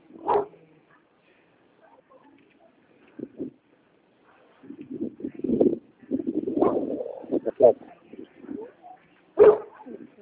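Dogs bark: a sharp bark at the start, a stretch of softer yips and whining in the middle, and another loud bark near the end, with quiet pauses between.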